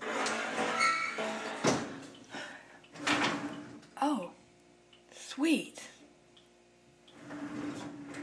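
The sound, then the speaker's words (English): Clunks of a dishwasher door dropping open to empty the dishes, then two squeaky rattling slides as racks roll out, with a brief spoken exclamation and faint background hum. “I love when I empty the dishwasher and forgot that I did it.”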